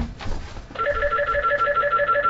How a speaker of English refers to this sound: All right, one second. The phone is ringing. Let me see who this is. One second.